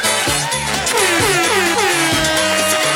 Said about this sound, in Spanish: Ay, parece que sí tenemos esa bocina. A ver, ¿será esta?